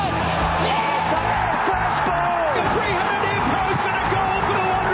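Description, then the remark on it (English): A large crowd roars steadily for five seconds as the starter releases the field from the stalls and a horse race gets underway, a dense wall of cheering with scattered whoops and yells rising above the continuous din. “Fields sent on their way to the roar of the crowd.”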